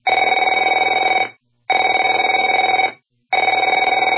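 A telephone rings in three loud, steady bursts of about a second and a half each, separated by short silent gaps, with a bright, buzzing bell tone and no voices.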